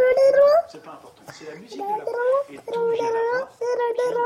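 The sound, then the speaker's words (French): Young children babble and whimper at a daycare (crèche), their high, wavering voices running in short bursts with brief pauses between, with no adult speech. “Vous êtes bien sur France Culture pour la série musicale La Fleur de l'Âge et présentement vous êtes, oui, à la crèche.”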